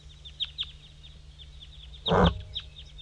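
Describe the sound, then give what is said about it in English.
A wild bird up in a dead pine gives a loud, harsh call lasting a fraction of a second, set among a scattering of faint, high, thin chirps that repeat irregularly over a low steady hum. Nobody speaks. “Here go the wild bird. 5-3 calling back.”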